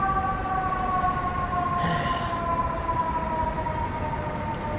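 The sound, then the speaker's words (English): A steady siren wails outdoors in a public park, its sustained tones gliding slightly in pitch over a constant rumbling background of wind or traffic noise, moderately loud and continuous throughout. “Just as the siren started.”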